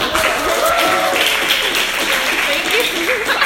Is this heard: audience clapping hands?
yes